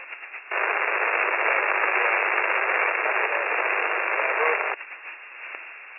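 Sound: radio transmission static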